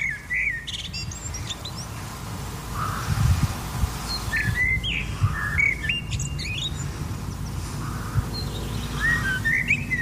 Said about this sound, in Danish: Og jeg er jo ikke den store ornitolog, men mit allerbedste gæt er, at det må være en solsort. Den lyder solsorter-agtig, den her. Prøv lige efter.